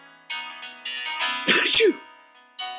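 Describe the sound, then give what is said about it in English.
A single loud sneeze bursts out after a couple of drawn-out, breathy voiced build-up sounds, followed by a brief pause and a short trailing vocal sound. “I've been sneezing ever since.”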